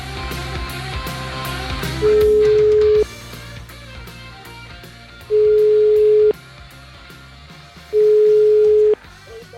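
A telephone ringback tone sounds three times while a phone call is being placed, each steady tone lasting about a second with pauses between, loud and clear over a bed of background music.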